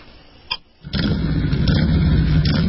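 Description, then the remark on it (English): A motorcycle engine cranks and fires up after a short quiet stretch, then settles into a loud, steady rumble that continues to the end, put on as white noise to help someone sleep. “Would you mind if I put on some white noise?”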